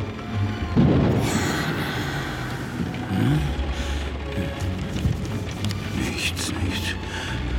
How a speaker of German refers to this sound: Bloß der Wind im Kamin.